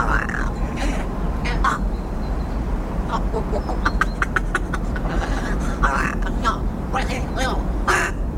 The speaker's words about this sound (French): Oui, tout à fait. Il s'agit du chant d'un corbeau qui s'appelle Balbo.